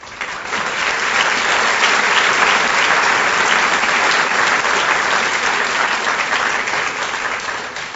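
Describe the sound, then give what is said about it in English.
A large audience at an AA roundup applauds steadily for several seconds, a dense, loud wash of clapping that swells quickly and holds before easing slightly at the end, with no talking over it. “I don't get that much applause for the head joke.”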